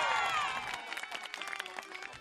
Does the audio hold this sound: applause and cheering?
yes